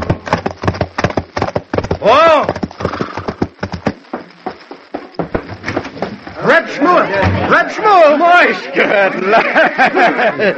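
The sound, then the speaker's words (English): The hooves of a single ridden horse clip-clop in a quick, steady rhythm, fairly loud, then keep going more faintly as voices start talking over them in the second half. “I unhitched one horse and rode him back.”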